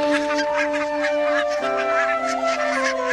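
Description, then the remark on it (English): A flock of barnacle geese honks and yelps in a dense, continuous chorus of overlapping calls, fairly loud, with a steady sustained tone humming beneath them throughout. “So even today, barnacle geese tell a tale as old as medieval times.”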